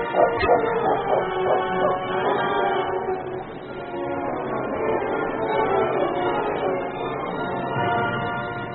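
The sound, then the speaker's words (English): The dog King whines and barks in an unbroken stretch of excited yelps and high, wavering cries as it tracks a child's trail from a stream, steady in loudness, with no one speaking. “Leading his horse, Preston followed King as the dog led him downstream through the thickets.”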